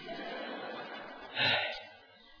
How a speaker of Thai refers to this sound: พอพูดเร็วเราก็หายใจไม่ทันเดี๋ยวขอหายใจก่อน